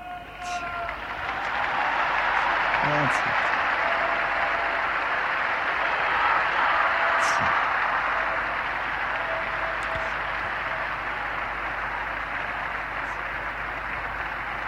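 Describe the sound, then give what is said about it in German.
Loud, sustained applause from a large crowd for the Pope after his Latin blessing, a dense steady roar of clapping that rises quickly and holds for the whole stretch, with scattered cheers and shouts mixed in. “Es lebe der Papst, so die Antwort mit Cari Applaus”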